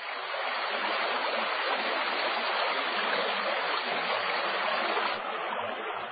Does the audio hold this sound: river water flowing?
yes